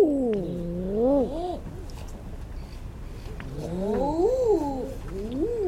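Male eider ducks coo in two bouts of drawn-out, rising and falling moaning calls, clear over a low, steady background rumble.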